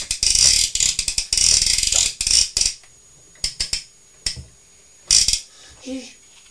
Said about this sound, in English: I can hear that's the sound of Dizzy the cement mixer. Mixing round and round, isn't it?